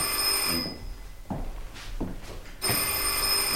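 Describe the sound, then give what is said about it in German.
A telephone bell rings in two loud bursts, a shrill, steady metallic trill that stops for about two seconds, with faint shuffling in the gap, then starts again. “Gehen Sie doch bitte mal ran”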